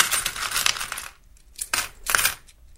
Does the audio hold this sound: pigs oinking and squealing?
no